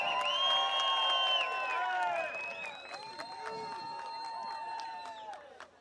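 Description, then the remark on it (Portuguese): An audience claps and cheers, with whoops and whistles riding over steady applause that is loudest at first, then thins and softens toward the end. “Uma salva de palmas.”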